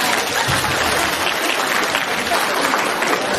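A crowd claps steadily, a dense wash of many hands applauding at an even loudness throughout with no voices on top.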